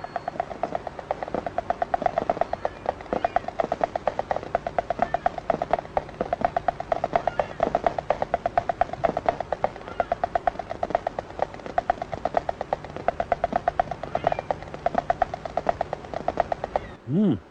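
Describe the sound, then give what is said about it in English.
Water moving up and down inside a tree trunk as the tree absorbs it after a downpour following a drought: a dense, rapid crackle of tiny clicks forms a steady throbbing texture throughout, ending with a brief rising tone. “the water begins to move up and down the trunk of the tree as the tree begins to absorb it”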